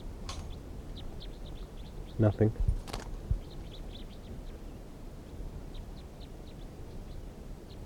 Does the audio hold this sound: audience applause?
no